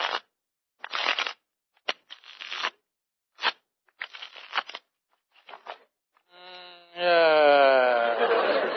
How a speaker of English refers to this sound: Now I'll just shuffle the cards here.